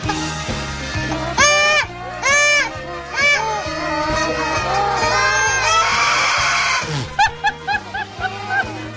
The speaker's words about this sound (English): Let's see, we have a pigeon, we have a chicken, and now we have an ostrich that's been let loose in here. Can we hear that ostrich one more time?